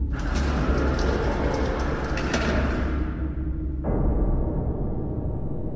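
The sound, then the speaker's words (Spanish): A steady mechanical rumble with a low whir, like an elevator running. Its brighter hiss fades partway through and a soft thunk marks a change before the hum continues. “Al momento de hacerlo, sonó el elevador.”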